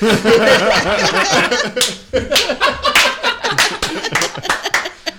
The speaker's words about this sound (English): I like how I've not clapped at all during this. Everyone else has.